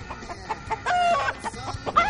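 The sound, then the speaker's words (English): A chicken clucks busily, a quick run of short, choppy clucks with a couple of higher squawking notes, fairly loud and continuous for a couple of seconds. “Give me the side of that fucking chicken.”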